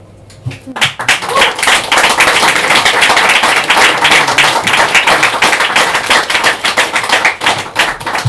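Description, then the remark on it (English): An audience at a poetry reading breaks into steady, loud applause between poems after a brief quiet start, many hands clapping densely for several seconds without letting up. “Inter-poem applause is lovely, but it, you know, just gets in the way of the set.”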